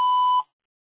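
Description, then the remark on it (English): A single steady electronic tone, like a voicemail recording beep, sounds clearly for under half a second and then cuts off into silence. “calling about after the beep.”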